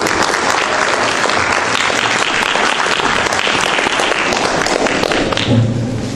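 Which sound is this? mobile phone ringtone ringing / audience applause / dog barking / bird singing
audience applause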